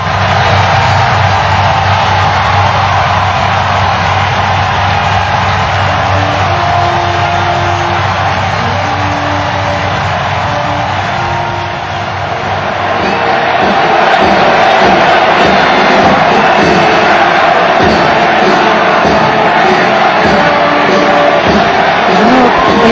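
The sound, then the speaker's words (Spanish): A huge outdoor crowd of the faithful in St. Peter's Square roars and applauds continuously as the new Pope Leo XIV, Robert Prevost, greets them from the balcony. The dense wash of cheering and clapping swells louder in the second half, with no distinct speech. “Ovación, aplausos, saluda a sus fieles que están en la Plaza de San Pedro.”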